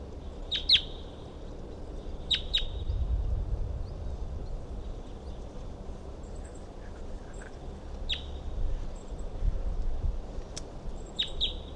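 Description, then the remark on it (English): A wild bird perched on top of a dead tree nearby gives short, bright, high chirps, often in quick pairs, repeating every few seconds over a steady low rumble of background noise. “So recording, I can see a wild bird perched up on the top of a dead tree nearby, and it was calling.”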